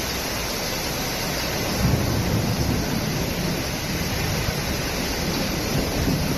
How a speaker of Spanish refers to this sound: de los cuales a casi 18 litros se recogieron entre las 8 y las 9 de la noche de ayer durante una fuerte tormenta con aparato eléctrico que provocó el corte de algunos caminos secundarios en la periferia y que nos dejó este sonido.